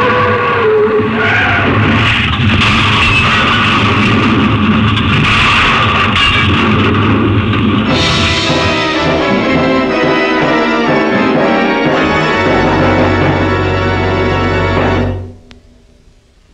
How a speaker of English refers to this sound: Oh, bad crash. Afraid not. Too bad about your plane.